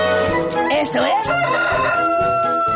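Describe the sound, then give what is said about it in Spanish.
A rooster crows a single loud cock-a-doodle-doo, its harmonic call rising and falling, set against a bed of sustained musical tones that runs through the whole clip. “Esto es El Gallo.”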